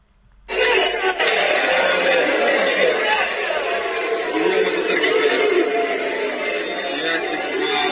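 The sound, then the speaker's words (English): A large crowd boos loudly, a dense, continuous roar of many voices that starts abruptly after a brief silence and holds steady to the end. “So there's a lot of booing, and I don't know if they're booing Mark Driscoll, if they're booing the fact that he got kicked off of stage.”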